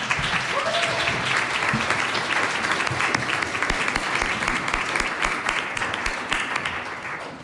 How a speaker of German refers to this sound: Herzlichen Applaus mal für unsere drei Aktivistinnen.